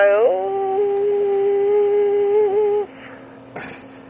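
An opera singer, a man, sings one long, steady note, holding it for nearly three seconds with a slight waver near the end before it cuts off, followed by a brief scuffing noise.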